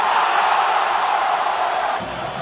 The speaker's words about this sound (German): Nachdem Patrik Eliáš dies Mitte des zweiten Drittels gelungen war, konnten die tschechischen Fans erst zu Beginn des dritten Drittels so richtig enthemmt jubeln.